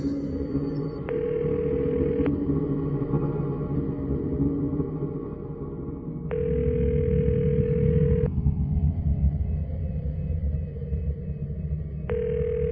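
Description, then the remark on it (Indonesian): A telephone ringback tone while calling room 404, which goes unanswered, repeats in steady bursts about two seconds long with roughly four-second gaps, clear over a low background rumble, with no one speaking. “Aku lantas menelpon kamar 404 itu.”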